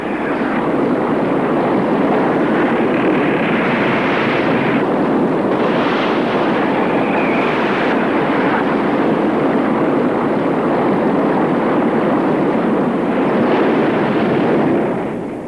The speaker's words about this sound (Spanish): El agua salpica sus ropas mientras la balsa continúa tropezando y girando de roca en roca sin que puedan hacerse con ella.